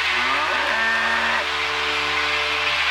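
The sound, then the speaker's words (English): A cow moos loudly, one long drawn-out low call that fills nearly three seconds, with no one speaking. “Do you hear a cow?”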